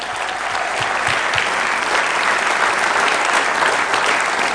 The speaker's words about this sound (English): And I think it'd be just appropriate to give a hand clap for everybody that's given to this church.